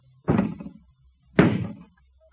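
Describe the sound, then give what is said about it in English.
Two heavy, booming blows strike a door about a second apart, each a loud thud with a rattling decay, as men try to break the door down in a dramatized scene with Lot. No voices are heard. “We'll have the door down soon.”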